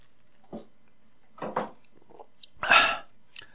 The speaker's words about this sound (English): Excuse me. Let me get a sip here.